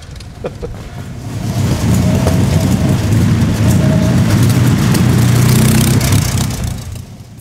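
A big 12-litre, roughly 300-horsepower V8 racing car engine roars loud, rising into a sustained rev that holds steady for several seconds before easing off at the end, with no voices.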